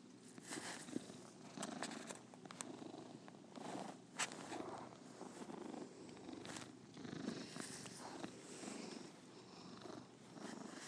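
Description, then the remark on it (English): A cat named Squeaky purrs steadily, a soft, continuous rhythmic rumble lasting the whole stretch, with a few faint clicks and rustles now and then and no one talking. “His name is Squeaky, this kitty here, for obvious reasons.”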